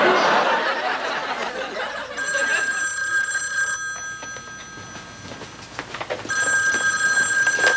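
A telephone rings loudly in two bursts, with a short pause between them, for an incoming call from a dad. Before the first ring there is a stretch of busy, noisy background sound.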